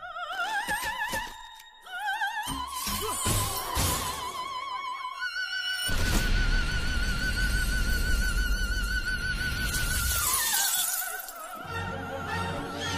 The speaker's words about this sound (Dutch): Deze operazangeres staat erom bekend dat ze enkel met haar stemgeluid glazen kan doen barsten. Dat klinkt dan ongeveer als volgt.